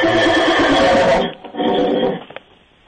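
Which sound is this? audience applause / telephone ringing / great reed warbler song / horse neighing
horse neighing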